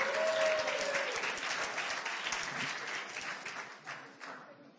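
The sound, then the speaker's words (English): A crowd applauds steadily, dense clapping that stays loud for several seconds before thinning slightly toward the end, with a brief whistle near the start. “That was much the response that I got when I came to the surface.”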